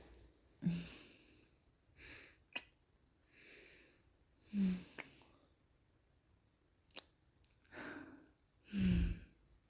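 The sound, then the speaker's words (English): Heavy panting breaths from someone lying down, a string of loud, airy inhales and exhales at an uneven pace, some ending in a low, rough, sighing edge, with no talking. “Now, just lay there, panting for me.”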